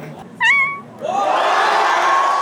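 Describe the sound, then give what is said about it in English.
A sharp, tonal meow rings out, followed by a loud crowd erupting into sustained cheering and shouting, with another stretched meow-like wail rising over the noisy roar near the end. “There was a lot of meowing and a lot of cheering, but this crowd didn't let any slackers through.”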